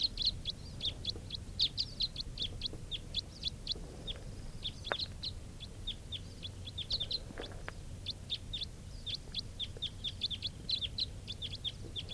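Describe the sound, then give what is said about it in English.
A steady stream of short, sharp, high chip notes from Type 4 crossbills flying in, wild birds passing over from one grove to another, repeating in quick irregular bursts over a low background rumble, with no voices. “it sounds like a crossbill flying in. Type 4 bird.”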